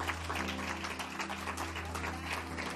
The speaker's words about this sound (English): Dale un aplauso al Señor. Give an applause to the Lord today.